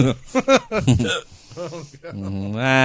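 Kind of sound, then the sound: human body sound, hiccup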